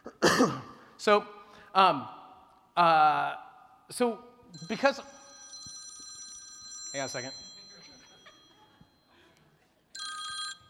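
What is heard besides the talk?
phone ringing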